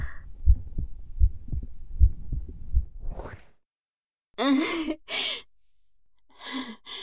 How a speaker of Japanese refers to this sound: もっとグイって耳押しつけてみて。そうそう。聞こえる？だろう？心臓の音。ドキドキ言ってるよ。